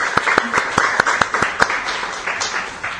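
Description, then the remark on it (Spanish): A group applauds the third prize, la espiga de oro, at a prize presentation, with brisk, overlapping claps, a few sharp individual claps standing out above the steady patter before it thins slightly toward the end. “Un aplauso.”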